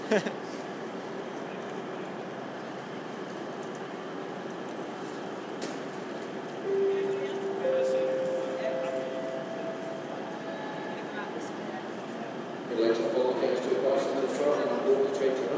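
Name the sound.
train arriving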